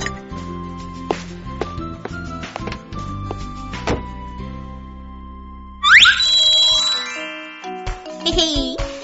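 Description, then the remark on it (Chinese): A mobile phone plays its incoming-call ringtone, a bright, tinkling melody of steady tones, then bursts into a louder rising chime flourish that keeps ringing to the end. “啦啦啦，看我来玩来电打铃。”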